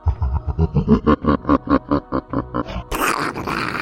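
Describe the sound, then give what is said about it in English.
A voice imitates lightning crashing: a rapid, throaty rattling rumble of a dozen or so pulses, followed by a sudden loud, hissing, breathy crash. “That's my version of lightning crashing.”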